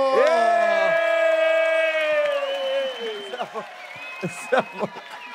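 An audience at a show cheers loudly as a performer is introduced, with long drawn-out whoops and clapping for about three seconds, then breaks into scattered short shouts and yells that gradually fade.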